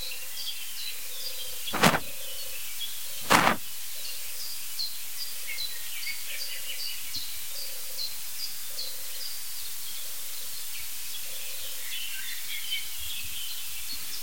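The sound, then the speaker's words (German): Turtle doves purr in a steady, low, rolling rhythm on a June morning at sunrise, phrases repeating with little pause, over a bed of high twittering birdsong. Two sharp, loud clicks break in near the start. “Das klingt sogar wie zwei Tauben.”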